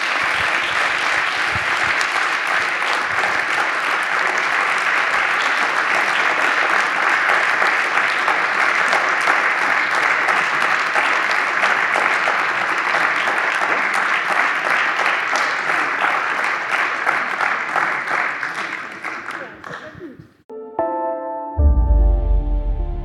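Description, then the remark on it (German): A crowd applauds a guest, a chimney sweep, steadily and loudly for about twenty seconds, a dense wash of clapping that then tapers off as a short tonal musical sting begins. “Einen großen Applaus für den bestgekleideten Schornsteinfeger Deutschlands.”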